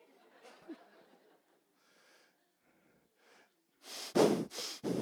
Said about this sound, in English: I think I'll start breathing heavier.